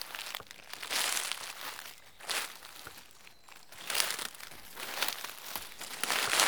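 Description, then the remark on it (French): Footsteps crunch through dry leaves in a steady walking rhythm, each step a crisp, crackling rustle, with no voices. “Si j'étais un bruit, je serais le son de quand on marche sur des feuilles.”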